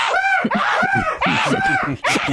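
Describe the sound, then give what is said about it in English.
Angry chickens attacking a car, recorded by the car itself, squawk loudly in a rapid string of harsh, shrill cries, four or five overlapping bursts over a couple of seconds, with no one talking. “The first car that was attacked by the chickens actually recorded it.”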